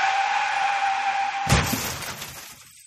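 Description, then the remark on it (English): A car skids with a sustained tire squeal, then crashes with a sudden loud impact as its hood caves in, with a burst of shattering and clattering debris, then the noise fades out. “It appears, sir, that the jewel-encrusted hood of your car has caved in, crushing its solid gold engine.”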